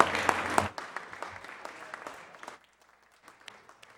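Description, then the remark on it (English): A burst of applause in a senate chamber welcoming two Phi Theta Kappa recipients from Santa Ana seated in the back of the chamber, loud at first, then thinning into scattered claps that fade out after a couple of seconds, with a few stray claps at the end. “Let's give them a round of applause in the back of the chambers.”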